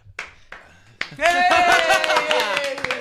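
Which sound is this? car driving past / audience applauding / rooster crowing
audience applauding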